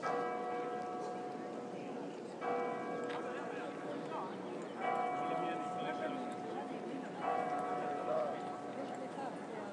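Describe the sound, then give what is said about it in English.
Church bells chime the Ave Maria at 4 o'clock French time, heard out in a square in France, with clear ringing tones repeating in a steady pattern roughly every two and a half seconds over a constant murmur of crowd noise and scattered footsteps. “That is the Ave Maria.”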